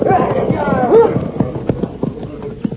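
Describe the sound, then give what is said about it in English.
Horse hooves clip-clop in a steady rhythm of sharp, hollow knocks as Cisco and Pancho ride up to Chief Red Cloud, with faint voices murmuring underneath near the start. “White men, get off horses.”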